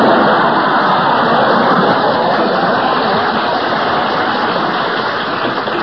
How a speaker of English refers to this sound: To live to see the day Berle gets applause on this program. It must have been a recording someone sneaked in.